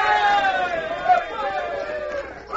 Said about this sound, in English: The men from the fort rushed out cheering as the battle stopped.